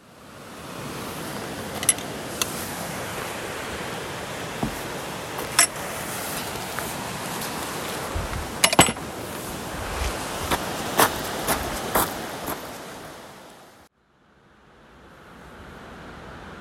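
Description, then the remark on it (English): A steady rush of flowing river water, not running too high, beside a narrow concrete path along the bank on a woodland walk from the Cavendish Pavilion towards Barden Bridge, broken by occasional sharp clicks, then drops abruptly to a softer murmur near the end. “Glad the river's not too high today, because the first part of this walk runs right along the bank.”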